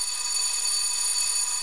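A doorbell rings in one continuous, unbroken burst, a steady bright metallic ringing with a shrill high tone that holds at an even loudness throughout, with no voices.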